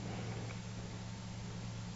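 A steady, low hum of cars on a highway, a continuous droning rumble with no distinct passes, fairly quiet and unbroken throughout, with no voices.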